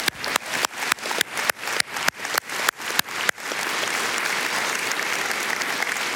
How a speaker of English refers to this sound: Let's give these guys a round of applause for their hard work.